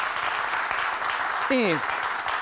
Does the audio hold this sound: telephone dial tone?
no